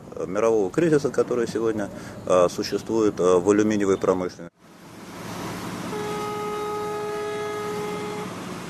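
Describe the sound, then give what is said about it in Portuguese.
A man speaks, then a freight train carrying bauxite to the provincial capital Kindia in Guinea-Conakry rumbles along the rails, a steady, fairly loud roar of wheels, with a long sustained horn blast sounding over it near the end. “No entanto, dia após dia, enormes quantidades de bauxite são transportadas em comboios de carga até a capital provincial, Quindia, e do porto de Conakry seguem de navio para a Ucrânia.”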